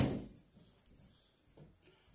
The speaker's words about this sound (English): Shut the window.